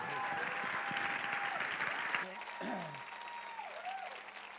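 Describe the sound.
An audience applauds with dense, steady hand clapping that swells and then eases off, while sustained organ-like tones and a few voices carry on underneath.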